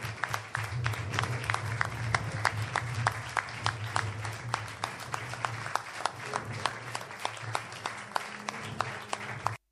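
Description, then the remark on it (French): An audience applauds steadily for about ten seconds, many hands clapping in a dense, even patter with a few sharper individual claps standing out, and no voices over it. “Et je voudrais simplement que vous puissiez faire quelques applaudissements de manière républicaine”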